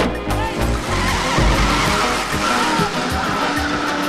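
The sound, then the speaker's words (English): A stolen car roars off at high speed, its engine loud with tires squealing and skidding, a continuous rush of motor noise filling about four seconds without any talking. “Phil steals the car.”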